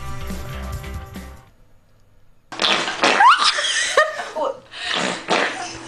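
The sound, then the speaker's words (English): A short, airy, sputtering queef rings out after a brief musical tone, then loud laughter and chattering voices erupt and carry on in bursts. “Yes, that is a queef.”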